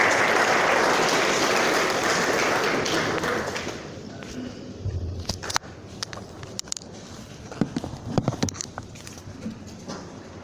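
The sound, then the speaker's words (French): A crowd applauds the minister of Arts and Culture loudly and steadily for several seconds, then the clapping thins out into scattered individual claps and taps as it dies down, with faint murmuring. “Applaudissez pour le ministre des Arts.”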